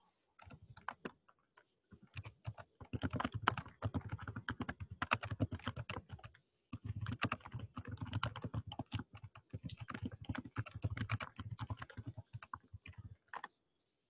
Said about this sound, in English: Okay, yeah, I'm typing up that comment now, but feel free to move on to other things.